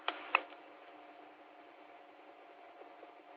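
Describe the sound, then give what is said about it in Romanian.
A couple of sharp clicks, then the small cooling fan at the back of a radio transmitter, switched on by pressing the transmit key while sending an unmodulated carrier, whirs steadily and quietly, a continuous airy hum with a faint tonal whine that holds unchanged throughout, with no talking. “Uite, la o purtătoare, o să se audă ventilatorul, că nu știu ce, nu-i convine lua asta, cum apăs pe TTU, pornește ventilatorul din spatele ei. Deci o să se audă puțin ventilatorul, dar las și fără modulație.”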